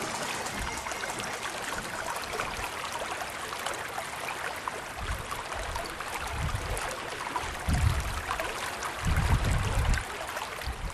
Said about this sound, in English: I've come to the village of Slane in Meath, where the River Boyne flows under a 13-arch bridge.